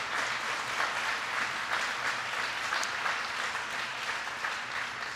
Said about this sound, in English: First of all, your wonderful governor and first lady, Jim and Jessica Doyle, are here. Please give them a big round of applause.